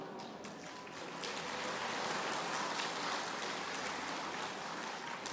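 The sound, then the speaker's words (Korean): An audience claps steadily for several seconds after a speaker announces that his daughter-in-law gave birth to a son, a dense, even patter of many hands at moderate loudness with no voices over it. “왜 박수를 칩니까?”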